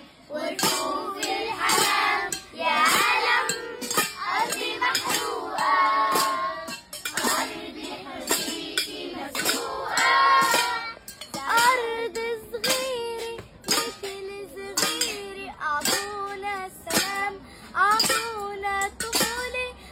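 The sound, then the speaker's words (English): Hungry children in Gaza bang on pots and pans in a steady, clanging rhythm while their voices chant and sing "give us our childhood" together loudly over the beat, the metallic strikes sharp. “But here we want to end this segment with a video of the children from Gaza alive. With empty stomachs but alive, banging their pots and pans and singing, give us our childhood, their future is on the line.”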